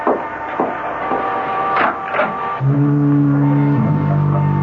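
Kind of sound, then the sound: signal or alarm, foghorn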